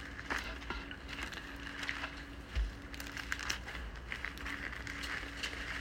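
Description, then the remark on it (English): Thin pages of a Bible rustle and crinkle as they are turned to reach John chapter 6, a run of soft, papery crackles over a steady low hum, with no one speaking. “We have to turn several pages in the Bible today.”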